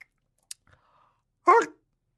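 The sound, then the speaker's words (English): A voice imitates the E-tag beep heard when driving under a tollway, a single short, loud, nasal burst of about a quarter second, preceded by a faint click and a soft, thin tone. “you know the noise on the, when you go under a tollway and the E-tag beeps? It's like a very specific note and I can't quite get it.”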